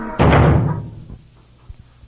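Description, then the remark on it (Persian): The door of Noah's ark, closed by God, slams shut with one heavy, booming thud whose rumble fades over about half a second, followed by a couple of faint, soft knocks in near silence. “از خدا دروازه با بندا کن،”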